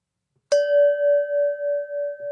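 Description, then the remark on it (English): A single bell is struck once and rings out cleanly, its bright metallic tone sustaining with a gentle wavering pulse for about two seconds, alone with no voices. “there's the bell.”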